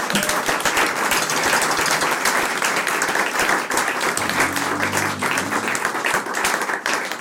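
Sustained applause from a live audience at a performance being recorded for Wüstewelle Radio, a dense crackle of many hands clapping steadily for several seconds, with a faint low murmur or hum appearing toward the end.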